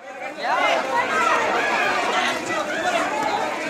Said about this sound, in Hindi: ये आवाजें हैं एक ऐसी ही उन्मादी भीड़ की जो देश के किसी हिस्से में कानून हाथ में लेकर अपने शिकार को खुद सजा दे रही है। ये लोगों का हुजूम है जो लाठियों और डंडों से लैस होकर सड़कों पर तांडव मचा रहे हैं।